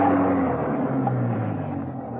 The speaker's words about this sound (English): A car was coming up the driveway. Had Venus Brown returned?